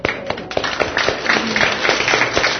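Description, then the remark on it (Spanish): A crowd breaks into steady applause for two newlywed couples married a year or less, a dense wash of overlapping claps with a few sharper individual slaps standing out, sustained at moderate loudness throughout. “Un aplauso para ellos.”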